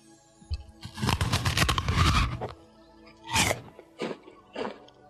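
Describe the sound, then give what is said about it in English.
A pretzel is snapped and crunched for the Dallas Cowboys schedule release: a long crackling break lasting over a second, then three shorter, sharper crunches in quick succession. The snaps are crisp and fairly loud, with no talking. “I'm gonna crack the pretzel of the Dallas Cowboys schedule release.”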